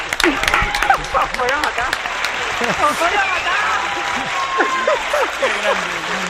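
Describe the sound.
A steady burst of applause from a small group, close and fairly loud, lasting several seconds, with voices calling out and chattering over the clapping.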